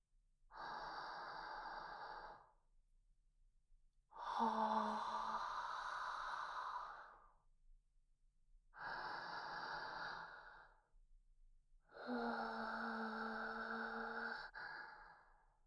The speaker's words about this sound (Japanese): 息？ああ、吐息。それもあったか。